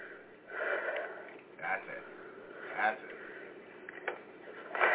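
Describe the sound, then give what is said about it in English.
Heavy, breathy inhales and exhales with a few sharp sniffs, fairly quiet, coming in uneven bursts over a soft noisy background. “That's it. A little more breathing.”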